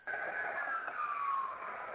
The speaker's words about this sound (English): I couldn't hear you. Ambulance was going by.